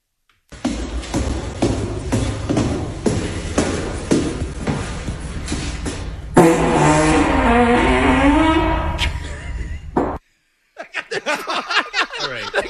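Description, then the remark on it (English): Quick, steady footsteps echo in a stairwell, then a man lets out a long, loud, buzzy fart whose pitch wobbles for several seconds. After a short silence comes a run of choppy bursts. “This man, his life's mission is to fart in the stairwell.”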